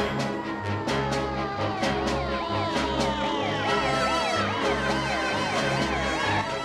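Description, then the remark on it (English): An ambulance siren wails loudly and steadily, its pitch sweeping up and down in quick repeated cycles over a low engine rumble, with no one talking, as the ambulance pulls up on a runway alongside a plane. “An ambulance pulls up on the runway alongside a plane.”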